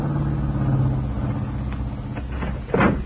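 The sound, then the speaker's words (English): A car engine rumbles low and steady as the vehicle slows and pulls in to park at a fiesta barbecue party, followed by a brief, louder scuffing noise near the end. No one speaks. “Well, let's park this thing and join the crowd.”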